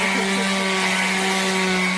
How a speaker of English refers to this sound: They were using an actual drill on you. That's not like that's a drill that you'd buy at Bunnings, not a drill that you should be drilling into.